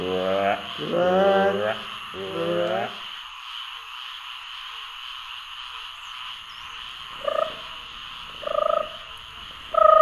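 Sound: frogs croaking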